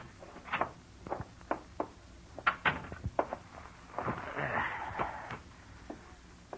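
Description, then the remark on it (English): A door being opened: a series of clicks and clunks from the latch and handle, followed by a longer scraping, rustling movement as it swings, with a couple of soft knocks at the end. “Get the door, will you?”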